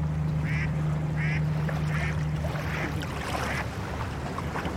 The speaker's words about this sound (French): Ce que je trouve très agréable là, c'est de à la fois d'entendre la façon dont les vagues doucement diminuent et s'éteignent, et en même temps que le bateau, le bruit du bateau doucement s'éloigne.